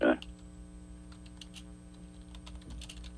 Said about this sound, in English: You can hear me typing now